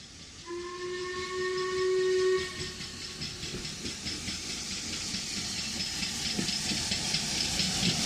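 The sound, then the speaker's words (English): A steam train's whistle blows one long, steady blast, then gives way to loud, continuous hissing steam and rhythmic chuffing as the engine passes close by. The train runs from Fort William to Mallaig over the Glenfinnan Bridge. No one speaks. “You can sit in the cockpit and watch the steam train pass by.”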